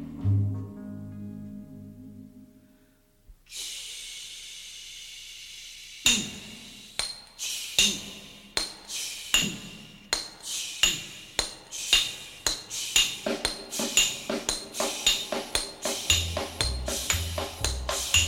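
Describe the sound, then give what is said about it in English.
Hammers strike steel railroad spikes in a long run of sharp, ringing metallic clangs, loud, coming faster and overlapping as it goes, after a brief low rumble and a sustained ring. “Listen to hammer swingers talking to you.”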